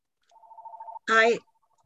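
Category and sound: signal or alarm, telephone ringing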